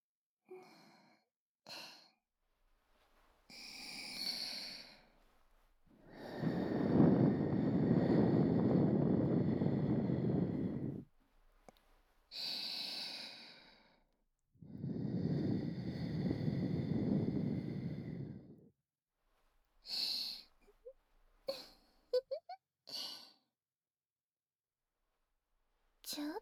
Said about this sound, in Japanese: 魔力を込めて耳に息を吹きかけるだけでこうなっちゃうんですね。